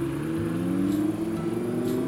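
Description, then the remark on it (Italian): A car engine hums steadily, its low drone rising slightly in pitch as people get back in and the car pulls away from Villa San Martino in Arcore, with no voices. “È in quel momento che la gente risale in macchina e se ne va.”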